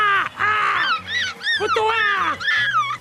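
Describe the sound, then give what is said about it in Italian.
A person imitates a seagull's cry with a loud, continuous string of shrill, wavering squawks that rise and fall in pitch, with no talking alongside. “Di imitazione dell'urlo del gabbiano.”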